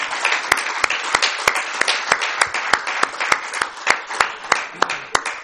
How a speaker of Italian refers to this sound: Ecco, credo che si meritino tutta la nostra riconoscenza, il nostro applauso.